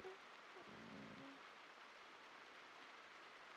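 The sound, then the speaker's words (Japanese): Steady rain pours down in a dense, even hiss that fills the whole clip, with a brief low rumble near the start; no one speaks. “しかも予報見たら来週までずーっと雨なんだもん。”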